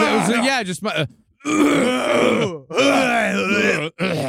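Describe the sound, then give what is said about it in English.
A voice imitates a coughing old man with three long, raspy, groaning bursts, the pitch wavering and sliding, separated by brief pauses. No clear words are spoken. “Even if it was like a coughing old man, even if you brought up a man who just go, which actually I think most weddings are announced.”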